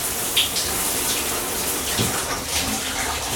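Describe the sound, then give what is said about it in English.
A shower runs steadily with a hard, pulsing spray, a dense, hissing rush of water that stays loud and even throughout, with no voices. “Then she was into the shower, twisting the knob for a hard, pulsing spray.”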